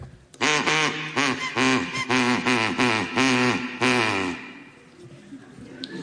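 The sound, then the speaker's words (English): A person imitates a duck, letting out a rapid run of loud, nasal quacks for about four seconds, then falls quiet. “No, it was my duck.”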